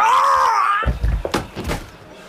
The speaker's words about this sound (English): I will close the door.